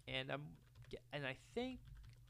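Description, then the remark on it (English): Quick, irregular keystrokes tapping on a computer keyboard while looking up William R. Trotter, soft and clicky, running under bursts of indistinct voice. “So if you hear me typing.”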